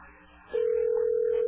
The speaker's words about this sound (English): We'll hear a beep.